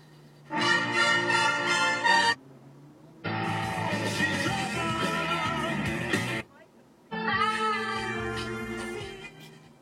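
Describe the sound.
A man walking up the street with his dog and earphones in yells in three long, loud bursts separated by short pauses, his voice strained and harsh, carrying from the street outside.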